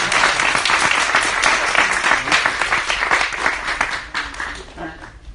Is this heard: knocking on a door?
no